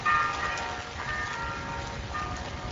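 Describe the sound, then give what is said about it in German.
Church bells ring in the distance at the Auschwitz main camp as the Pope walks through the camp gate, their tones overlapping and strikes recurring about once a second over a low, steady background rumble. No one speaks. “In der Ferne läuten Glocken, sonst herrscht Stille, als der Papst durch das Tor des Stammlagers Auschwitz mit der absurden Aufschrift Arbeit macht frei geht.”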